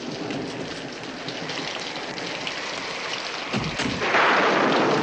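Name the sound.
rain falling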